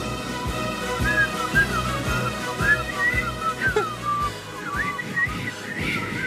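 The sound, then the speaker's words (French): Two women make a breathy, airy attempt at whistling a song, mostly rushing breath with only brief, wavering notes breaking through now and then, never settling into a clear melody. “Et ceci conclut notre grande carrière de siffleuse que nous avons démarrée la semaine dernière et qui s'achève là, tout de suite.”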